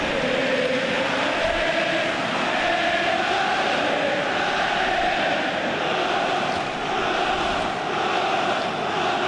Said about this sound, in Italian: Sale alto il coro dei tifosi del Toro.